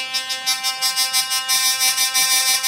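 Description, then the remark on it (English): A hurdy-gurdy drones steadily while its buzzing bridge, also called the dog and tied to a peg, rattles in quick, regular pulses, a bright raspy chatter over a sustained tone, fairly loud, with no talking. “And this is how the magical buzzing is made.”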